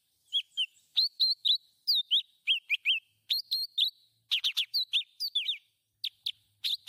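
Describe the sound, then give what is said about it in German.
A lively leafbird song of rapid, varied whistled phrases and sharp chirps, delivered in quick bursts with short pauses, clear with no other sounds. “Wollte den Blattvogel direkt hinterher. Den hast du mir auch zur Verfügung gestellt.”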